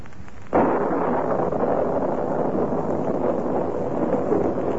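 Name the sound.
rain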